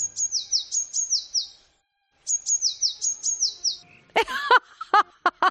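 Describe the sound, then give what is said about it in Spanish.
Blue tit song: two bright, high trilled phrases of quick repeated notes with a short pause between, followed by a few harsher, lower calls near the end. “¡Es el herrerillo!”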